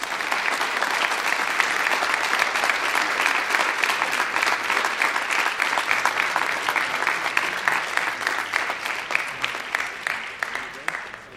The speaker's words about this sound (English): All of these individuals recognize the hard work that goes into it, the support of their teammates, and I would invite you to honor them with your applause at this time.